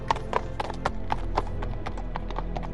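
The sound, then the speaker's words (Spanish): Horse hooves clip-clopping in a steady, regular rhythm, each hoof strike a sharp knock repeating about every quarter second, moderately loud over a low background rumble. “Acércate a uno de los caballos con respeto y curiosidad.”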